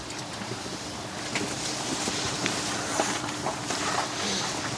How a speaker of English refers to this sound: Central to Japanese culture are honor and respect, which are on full display in the world's most polite subway car. Sorry. Sorry. Sorry to everybody. I just want to be clear how quiet it is in this train.